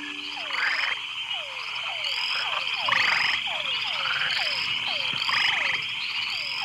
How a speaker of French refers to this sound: Je me suis vite rendu compte que l'ambiance était encore plus agréable durant la nuit, lorsque plus de 30 espèces de grenouilles se rassemblaient dans des chœurs à travers l'île pour entonner leur chant de séduction.